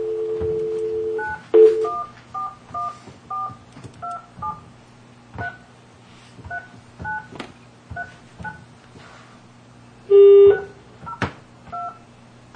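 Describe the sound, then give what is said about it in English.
A phone number being dialed for a phone conference call from Taney County, Missouri: a series of short, evenly paced two-tone keypad beeps, with a steady low hum and a couple of louder tones near the start and again later, no talking. “Hearing no objections, we'll dial the number.”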